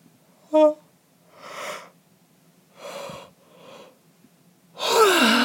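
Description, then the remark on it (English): A sequence of breathy yawning sounds: a short voiced squeak, then several soft airy inhales and exhales, ending in a louder, drawn-out yawn with a falling vocal tone. No speech. “Oh man, I'm getting in some quality yawns.”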